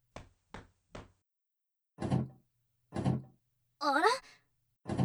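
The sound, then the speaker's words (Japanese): The stuck door of an old gym storage shed rattles and thunks in repeated jolts, three quick short clacks then heavier shoves, as someone tries to force it open at dusk; a woman's brief surprised exclamation comes between them. “扉が開かないわよ。”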